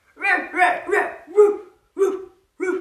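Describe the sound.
A person imitates a dog barking, giving a quick burst of three voiced woofs followed by two more spaced-out barks, fairly loud, with no other talk.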